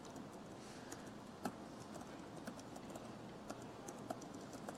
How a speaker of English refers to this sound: Now if I try to share this, maybe I'm going to email it out and I'm going to mail this out, and I'll go ahead and I'll mail this to myself. And I'll just start typing.